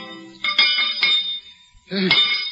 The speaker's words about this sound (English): melted down the cracked bell and carefully added 187 pounds of American copper to the 2,000 pounds of the original metal. The bell was recast. Upon being tested, it cracked again.